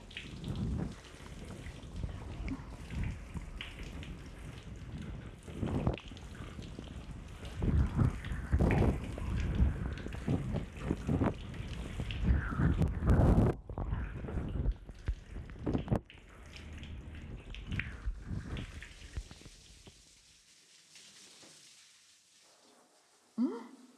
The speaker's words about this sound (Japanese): シャワーで流すから目は閉じていようね。お耳のところに泡がついちゃってるから、ちゃんと流しておこうね。